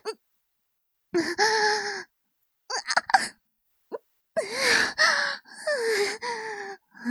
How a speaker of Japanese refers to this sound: 興奮した息遣い、めっちゃ聞こえてくるんですけど。